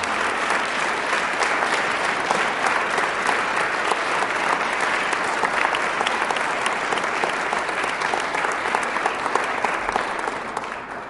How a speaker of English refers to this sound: And maybe while we're waiting, we have the steering committee stand up and give them a round of applause. They work hard.